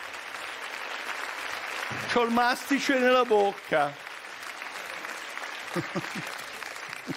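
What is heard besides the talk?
audience applause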